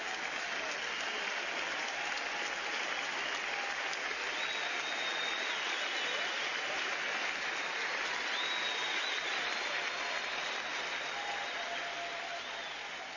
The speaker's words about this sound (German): Da wird über jeden gejubelt, der es geschafft hat. Das ist euer Applaus. Euer Applaus.